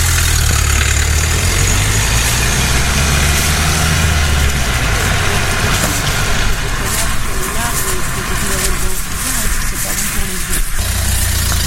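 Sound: car engine idling nearby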